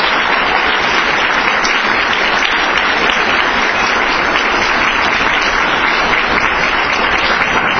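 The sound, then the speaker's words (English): Sustained applause from an audience, a dense, steady wash of clapping that stays loud and even for about eight seconds with no voices over it. “Since I always like to talk after the applause, my website is thescoop.org”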